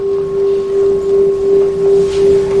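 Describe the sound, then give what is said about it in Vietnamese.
A struck temple bell rings on in a long, steady, deep tone, its hum wavering in slow gentle pulses throughout, with no voices over it. “Thật ra người thỉnh cái chuông, cắm cái nhang, thỉnh tiếng mõ, đánh cái khánh, người ta hiểu được nội tâm mình hết.”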